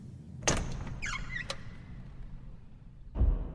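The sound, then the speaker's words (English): A door to one of the mushrooms opens: a sharp latch click, a short squeaky creak of the hinges, another click, then a dull thud as it settles. No one speaks. “This is a door to one of the mushrooms. Should we enter?”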